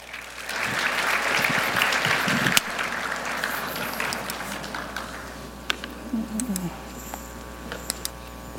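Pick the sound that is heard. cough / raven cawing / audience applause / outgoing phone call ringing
audience applause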